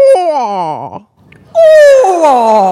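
A human voice imitating a barred owl call, demonstrating it for a group to call back: two loud hooting phrases that swoop and slide downward in pitch, the first trailing into a wavering, quavering end, separated by a brief pause.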